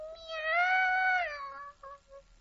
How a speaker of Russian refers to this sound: «Мяу!» Девочка поняла, что котенок сильно проголодался.